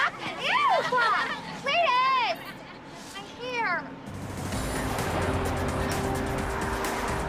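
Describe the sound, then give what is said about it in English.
High, warbling voices call out briefly, then a bus carrying students rolls along past rugged, snow-covered mountains with a steady engine and road rumble as a few other vehicles follow behind. “The bus continues on with a few vehicles following.”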